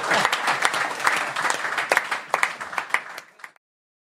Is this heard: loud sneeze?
no